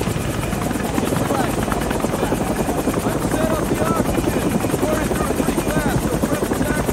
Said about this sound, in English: The helicopter passes over the white construction trailers and the trash pile.